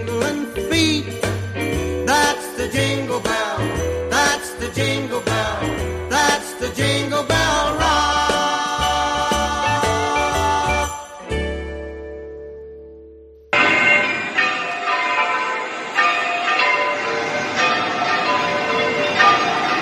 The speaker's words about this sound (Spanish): Con este precioso sonido nos acercamos a las campanas de la Iglesia de los Santos Juanes, entre ellas el borrego, la mayor de uso litúrgico de Valencia, con 2 toneladas de peso.